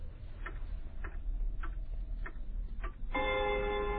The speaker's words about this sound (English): Sam wanted a very specific sort of a grandfather clock that had the arm